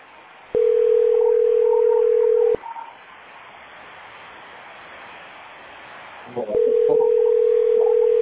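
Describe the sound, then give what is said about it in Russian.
A steady telephone tone sounds for about two seconds, stops, then after a stretch of faint hiss and brief murmuring it returns, loud and unbroken, to the end. “Он был телефон.”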